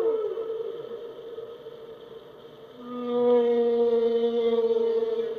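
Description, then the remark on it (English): Humpback whale song: long, eerie tonal moans hold steady, and a second, deeper wail joins partway through, the two calls overlapping clearly with no voices present. “They tend to think of, you know, humpback whales that have very melodious sounds and very almost haunting, beautiful calls.”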